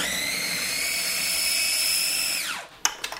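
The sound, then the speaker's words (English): A food processor motor, blending avocado with a warm liquid of water, sugar and cocoa powder, whirs at a steady, high-pitched whine for a couple of seconds, then winds down with a falling pitch, followed by a few light clunks as it stops. “I'm gonna pour this liquid into the food processor with the avocado.”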